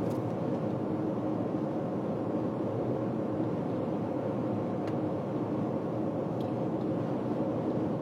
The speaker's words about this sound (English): Low-flying helicopter over the freeway here.